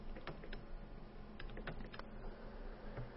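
Several computer keyboard keys are pressed in an irregular sequence of sharp clicks over a steady low hum, with no one speaking, as space is pressed to select the UK British keyboard layout radio button in a setup menu.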